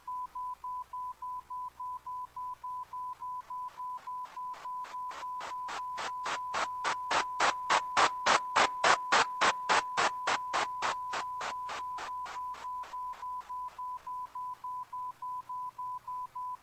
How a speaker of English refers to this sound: It'll sound like the tone is playing continuously in the background. Then as I drop the white noise down, you'll hear the individual tones again. So really pay attention to the tones in the background behind the white noise.